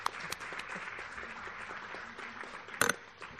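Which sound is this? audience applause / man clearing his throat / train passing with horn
audience applause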